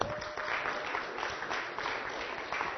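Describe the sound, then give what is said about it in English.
A crowd claps steadily and continuously for everybody who helped put up a door, a dense wash of many hands applauding at moderate loudness with no pauses and no voices standing out. “No, the real applause goes to everybody here that helped put that thing up.”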